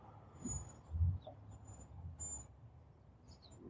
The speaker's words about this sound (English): A few birds.